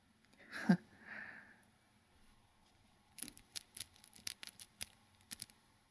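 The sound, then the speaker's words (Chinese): The zipper of a leather hood is drawn open, its teeth clicking in a quick, uneven run of sharp ticks, after a short soft rustle near the start. “撕拉一声拉开了皮头套的拉链。”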